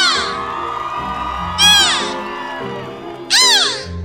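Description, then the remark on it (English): Beluga whale calls: high, squealing chirps and whistles with rising and falling sweeps, two loud bursts of bright descending chirps standing out over a steady murmur of lower trills. “Beluga whales are often called the canaries of the sea because of the songs they sing and the chirps they use to communicate.”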